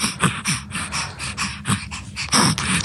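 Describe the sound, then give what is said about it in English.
Rapid, labored breaths from a baby boy struggling with his breathing repeat in quick rhythmic bursts, fairly loud, each gasp and rasp following closely on the last with a strained, wheezing quality, as his mum tries to distract him. “A mum trying to distract her baby as he struggles with his breathing.”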